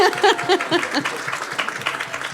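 An audience claps steadily in a dense, continuous wash of applause, with a few voices and cheers rising over it in the first second before the clapping carries on alone.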